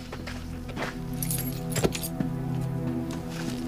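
Car keys jingle in a few brief metallic bursts close by, with light clinks scattered over a steady low hum, as if being passed from hand to hand.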